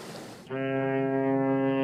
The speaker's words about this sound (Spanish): Claro, porque si hay mucha agua... ¿Quiénes van por el agua? Vienen barcos, claro que sí, claro que sí.